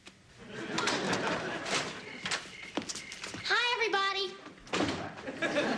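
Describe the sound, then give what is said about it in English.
A door the speaker thought was locked creaks open with a short, drawn-out squeal, surrounded by thumps and clattering movement while voices murmur in the background. “I could have sworn I locked that door.”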